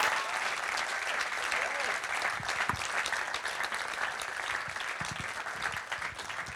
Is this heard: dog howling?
no